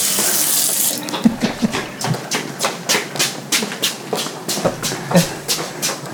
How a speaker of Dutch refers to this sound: Ik ga wel even kijken of er gewoon een kraan open. Iemand is vergeten de kraan dicht te draaien.